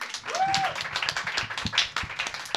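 An audience applauds the event's moderator with dense, steady clapping for a couple of seconds, and a short whistle rises briefly over the claps near the start.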